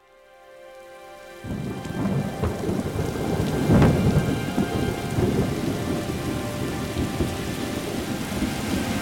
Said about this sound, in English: I haven't seen it rain this hard in a long time. Well, I guess God say he's going to bless the earth.